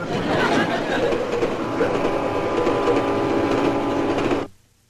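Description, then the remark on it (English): A train runs steadily along the rails, a loud, continuous rumble with a faint rhythmic clatter that carries on unbroken before stopping abruptly near the end. “Now, I better get back to that train.”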